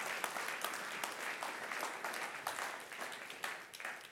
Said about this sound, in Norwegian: Halleluja! Halleluja! Ja, kom igjen! Gi Jesus en applaus!